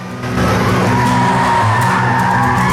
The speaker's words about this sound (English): slams the coupe into reverse, spins round, and races off back up the road.